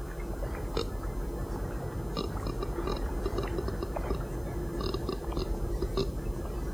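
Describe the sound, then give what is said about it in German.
Ropes on a boat rub and creak against iron bolts in irregular little squeaks and clicks, steady, over a soft wash of water lapping against the hull, with no voices. “Reiben sich die Taue an den Eisenbolzen.”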